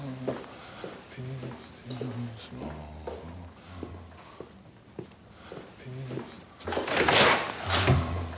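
Low, sustained tones play in short phrases, then near the end a louder burst of rustling, creaking noise comes as a man pushes open a classroom door in a school.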